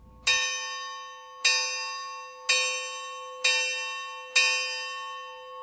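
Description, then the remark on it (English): A memorial bell is struck five times for the last alarm of deceased members after a roll call, at a steady, roughly one-second pace, each bright metallic ring sustaining and fading before the next strike. No one speaks. “The bell has been struck for their last alarm.”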